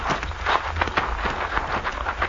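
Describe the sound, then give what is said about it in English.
Horses' hooves clip-clop in a quick, uneven patter of sharp knocks, several horses being led up on foot over a low background rumble, with no voices. “We will lead the horses up, Pancho, but keep your eye on that hombre.”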